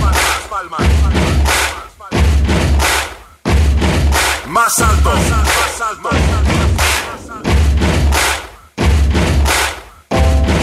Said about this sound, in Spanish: A continuación hay que comprobar cómo suenan esas palmas.